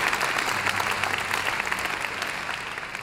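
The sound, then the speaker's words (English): An audience claps their hands in victory, steadily for about three seconds, a dense, even wash of many hands at fairly loud volume with no voices on top. “Come on, somebody ought to clap your hands in victory right now.”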